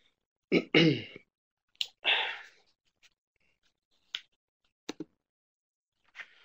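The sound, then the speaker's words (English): Two rough throat-clearing bursts from a speaker who has been under the weather come early, followed by a few short, sharp clicks spaced out in otherwise quiet surroundings. No one speaks. “So if you hear some coughing and clearing of throats, we're still suffering a little bit, but we'll push on regardless.”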